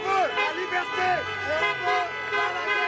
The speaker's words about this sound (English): A cacophony of car horns as demonstrators opposing COVID-19 restrictions converge on the most famous street in Paris.